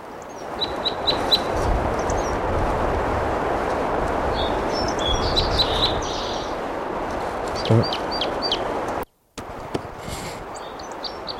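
crossbill singing

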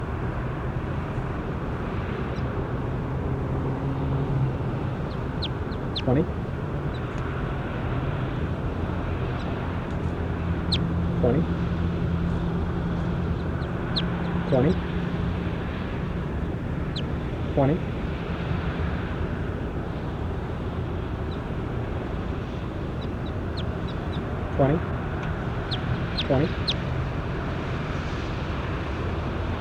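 bird calls

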